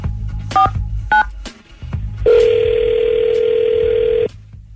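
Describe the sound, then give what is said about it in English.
Telephone dialing of a contest winner's phone number: two short touch-tone beeps with a few clicks between, then a loud, steady, low-pitched telephone tone holding for about two seconds before cutting off. No one speaks. “I'm going to go ahead and dial up his phone number.”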